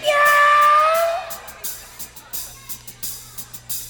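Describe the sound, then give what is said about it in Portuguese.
A voice imitates a kitten with one drawn-out, high mewing cry, then fades into soft, evenly spaced rhythmic taps. “Imite agora um gatinho.”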